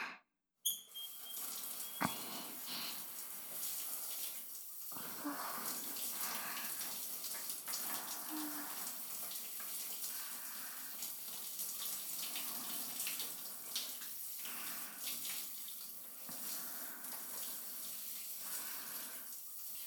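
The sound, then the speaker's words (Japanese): Water runs steadily from a tap or shower for the whole stretch, rinsing soap foam off a person's body, a continuous rushing with small splashes and shifts as it pours, with no voices. “じゃあ泡を流しちゃいますから。”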